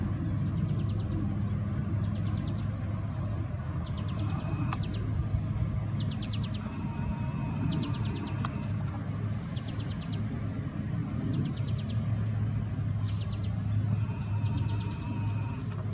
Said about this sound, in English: They do really high-pitched squeaks okay. that are like, I can't really describe it. Everyone look up a 13-line ground squirrel screaming.